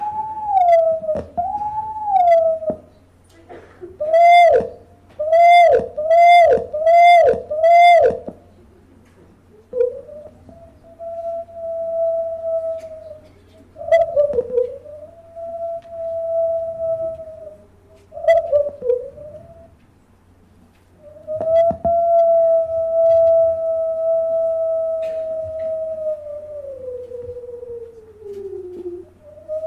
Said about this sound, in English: As you can hear here, there's more going on back and forth between individuals cutting off in strange places in the howl